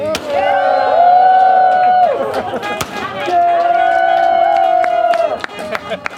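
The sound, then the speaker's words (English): Firecrackers pop and crack in scattered bursts throughout at the grand opening of a library in El Monte, mixed with a lively crowd and long, steady horn-like tones rising over the noise. “The grand opening was in March, and it began with an incense blessing and ended with explosions.”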